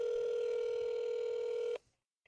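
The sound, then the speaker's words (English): A phone call being placed to grandparents: a loud, steady electronic telephone tone holds for nearly two seconds, then cuts off abruptly, followed by a faint click. “So we'll get Grandma, old Granddad, Nanny on the phone, and look forward to you guys hearing from them.”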